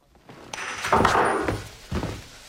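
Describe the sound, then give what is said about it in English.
A man drains his glass and slams it down hard on a kitchen counter, a loud thunk followed by a couple of duller knocks and clatter, with no voices. “Then he drains his glass and forcefully slams it onto the kitchen counter before storming out.”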